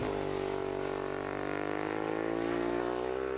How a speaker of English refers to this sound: That's a Ducati 1098R. Xerox sponsors a team of the racing superbikes.